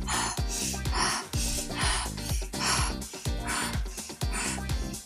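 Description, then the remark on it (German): Rapid, deep breaths rush in and out in a steady, quickening rhythm during a guided breathing exercise, fairly loud, riding over a pulsing musical beat with sustained tones. “Du atmest weiter. Ein, aus und weiter. Ja. Und nochmal schneller in deinem Atemrhythmus.”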